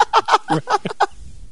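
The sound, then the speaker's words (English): A dark-haired jay gives a quick run of about six harsh, raspy calls in steady rhythm, loud, then falls silent. “Dark-haired Jay.”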